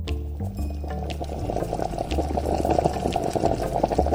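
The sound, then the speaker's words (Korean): A soy sauce mixture of soup soy base, soy sauce, cooking wine, sugar, a piece of green chili pepper and water simmers lightly over low heat in a pot, with a steady stream of small bubbles popping and crackling over a low background hum, continuous throughout with no voices. “분량의 재료를 냄비에 넣고 약불에서 살짝 끓인다.”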